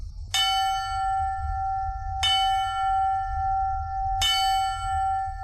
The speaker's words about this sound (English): In a silent memorial, officers from several local departments rang a bell 10 times. First 3 rings, then 4, then 3 again, to commemorate the 343 firefighters lost in the 9/11 attacks.